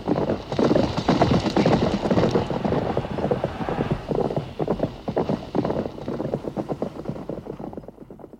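A pack of horses gallops hard in a horse race, hooves drumming in a fast, dense thunder with a windy rush over it, then the beats thin out and fade as they pass.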